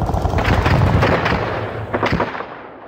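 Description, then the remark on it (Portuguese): A loud, dense barrage of gunfire mixed with heavy booming explosions, shots crackling rapidly over deep rumbling blasts before the din thins out at the end. No voices. “Saiu às ruas, pegou em armas e tirou o rei do trono. Com tiro, porrada e bomba.”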